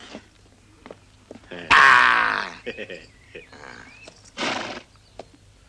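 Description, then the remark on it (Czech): A loud horse whinny bursts out and trails off, followed by a few scattered clicks and a second, shorter whinnying cry a couple of seconds later, from horses with a carriage that people are being asked to board. “Tak prosím, panstvo, nasedat. Krásný koně.”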